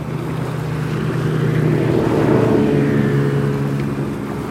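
A motorboat engine drones steadily and fairly loud along the Oder-Havel Canal toward Hennigsdorf, its low throbbing hum mixed with a broad wash of water noise, with no voices.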